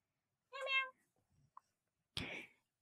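A pet cat, Siu Hak (小黑), just woken up, gives one short, high-pitched meow, followed by a brief quiet click and then a breathy, noisy burst about a second later.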